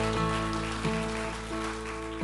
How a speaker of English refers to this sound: Put your hands together, would you?